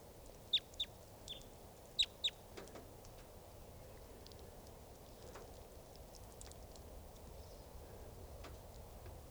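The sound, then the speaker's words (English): A flock of about 10 type 2 birds calling as they come in: sharp, high chirps come in two quick pairs at the start, then fainter scattered calls follow over a steady low rumble of background noise. “and a flock of about 10 type 2s just came in.”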